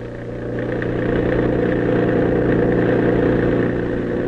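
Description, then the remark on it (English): A heavy motor truck, a milk truck, roars along a lonely, dark highway at night, its deep, rumbling engine drone swelling slightly in the first moment and then holding loud and constant with no voices. “Over it, roaring through the night, comes a motor truck.”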